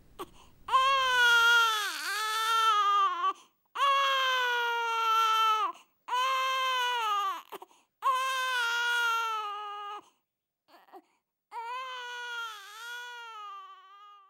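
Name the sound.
baby crying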